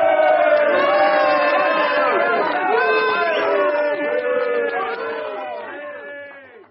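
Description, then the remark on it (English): A crowd cheers and shouts loudly and steadily, many voices overlapping, with a few lower booing calls mixed in, welcoming a newly endorsed election candidate for the constituency, before the noise starts to fade near the end. “Who was booing?”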